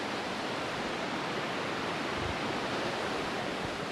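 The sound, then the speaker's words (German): A steady, loud roar of raging water rushing through a gorge about 6 metres below, filling the whole recording with no pauses or voices. “Ein Kind hat also können abgehen, 6 Meter ab ins reissende Wasser.”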